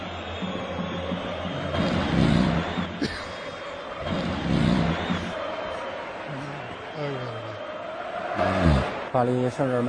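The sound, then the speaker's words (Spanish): Slow, rasping snores from a commentator in China, at a quarter to four in the morning during a Real Madrid–Paris Saint-Germain Champions League broadcast, rise and fall every couple of seconds over a steady murmur of stadium crowd noise, followed by a voice talking. “No es que se duerma, es que ronca, escucha.”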